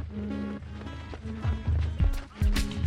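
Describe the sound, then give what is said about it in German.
Hurried footsteps of students starting to run, with others running after them, heavy uneven thuds picking up pace over a busy, noisy background with faint voices mixed in. “Sekunden später fangen die Schüler an zu rennen. Wir hinterher.”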